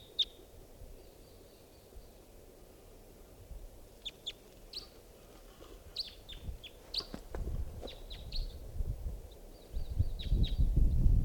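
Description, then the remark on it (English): Outdoors, a lone wild bird in flight gives a series of short, high chirping calls at irregular intervals over a low rumbling background that grows louder near the end. “Pointing out the wild bird.”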